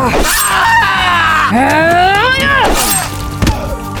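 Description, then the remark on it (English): A man screams in pain after being slashed, loud, his strained cries rising and falling in pitch for several seconds, broken up by a few sharp, clattering impacts. “A second slash ended his scream and sent the other man to his knees, arms up in surrender.”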